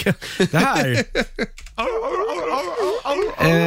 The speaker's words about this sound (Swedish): Och det här är en säl.